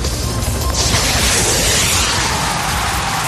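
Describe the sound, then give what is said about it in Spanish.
A loud gunshot blast, a first shot fired not at anyone, with a harsh, sustained roar of noise that carries on for a few seconds without fading. No one speaks over it. “No voy a tirar a nadie, pero voy con el primer disparo para ver qué tal se escucha el sonido.”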